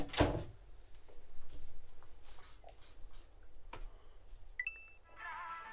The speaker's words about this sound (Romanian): Închide ușa!